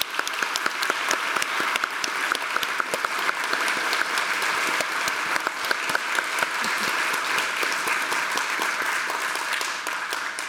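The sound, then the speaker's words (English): Sustained audience applause for the bassist, a dense, steady wash of clapping hands that holds at an even, fairly loud level for about ten seconds with no voices standing out. “One more big round of applause for our bassist, ….”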